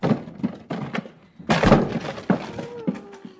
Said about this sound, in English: Get out of the way, Andrea. I'm going to break in the door.